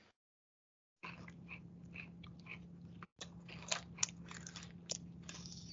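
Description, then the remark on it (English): Steady munching and crunching as someone chews food, with repeated wet bites and sharper crunchy snaps, over a low constant hum and a brief silent gap near the start. “Munching and crunching.”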